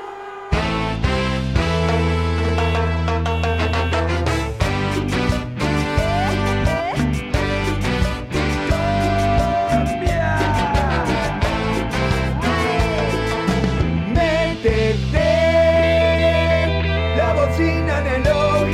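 A cumbia song plays steadily and loudly, with a driving percussion beat, bass and bright melodic instruments layered over a repeating rhythmic groove, with no one talking over it.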